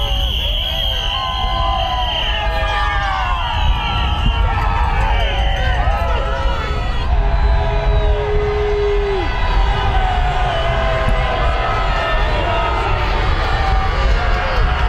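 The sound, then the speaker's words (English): A loud street crowd of President Trump's critics cheers and shouts without pause as he is driven home from golfing in Virginia after learning he lost: a dense roar of many voices with whoops and high whistles, and a sustained horn-like tone rising out of it briefly midway. “He was golfing in Virginia, driven home past his critics cheering.”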